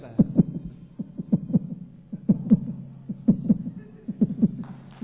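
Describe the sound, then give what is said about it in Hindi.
A person's heart pounds heavily and steadily as a glider passes overhead, each beat a tight lub-dub pair repeating about once a second, loud and deep over a low background hum, with no voices. “तभी एक ग्लाइडर मेरे सर के ऊपर से गुजरता है, मेरा दिल जोर से धड़कने लगता है।”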